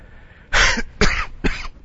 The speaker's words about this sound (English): Excuse me. I didn't cover the mic when I coughed.